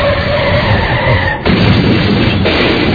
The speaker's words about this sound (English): Car goes spiraling out of control.